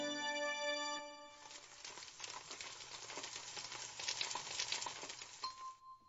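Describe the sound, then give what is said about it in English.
A brief steady electronic tone gives way to a loud crackling sizzle, like food hitting a hot pan, hissing continuously for about four seconds before cutting off, used as a cue for radio contest callers. No voices. “Call right now when you hear the sizzle.”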